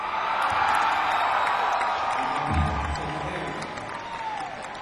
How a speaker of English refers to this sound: people, however many people that is, the sound of that many people screaming like they're being swallowed by a whale.